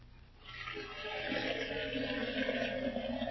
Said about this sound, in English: Now, to put some water in the tea kettle.